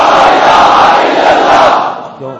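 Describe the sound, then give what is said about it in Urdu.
A large crowd shouts in unison the political slogan "Pakistan ka matlab kya" (what does Pakistan mean), marking 1940, a loud, dense roar of many voices sustained for about two seconds before tapering off, with a single voice emerging at the end. “بہرحال اب اس کو تاکہ پتہ چلے کہ 1940 والے یہ لوگ ہیں جو آج 1940 کے مناسبت سے پھر نعرہ لگا رہے ہیں کہ پاکستان کا مطلب کیا”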